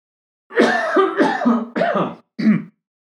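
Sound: cough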